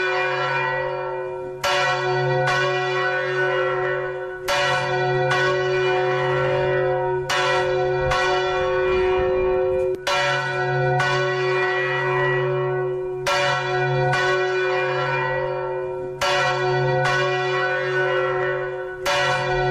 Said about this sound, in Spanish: Ese repique de campanas grabadas en el Santuario de Oro, este proyecto Tantalán de registro del sonido de 450 campanas.